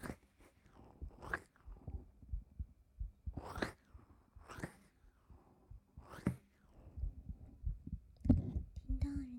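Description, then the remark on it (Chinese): A muffled heartbeat, heard with an ear pressed against a person's chest, thumps low and steady, with occasional soft rustling bursts breaking over it and a faint murmur near the end. “过来啊，把头靠到人家的胸口。”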